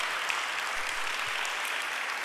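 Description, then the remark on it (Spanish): An audience in Yajalón applauds together for Jesus who heals, a dense, steady wash of many hands clapping that holds at an even loudness throughout, with no voices rising above it. “Vamos a darle un aplauso más fuerte a ese Jesús que sana.”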